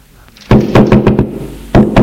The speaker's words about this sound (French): Il a encore frappé. Entrez !